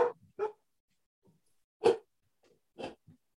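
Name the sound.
dog barking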